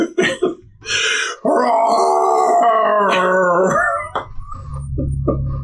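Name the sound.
dog howling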